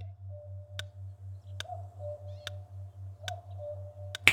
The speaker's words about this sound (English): And it all happened with a simple call. The cry and call of the cuckoo bird.